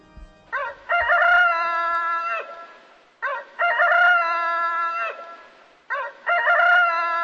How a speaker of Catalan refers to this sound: De nit, dalt del cimbori, hem sentit cantar el gall.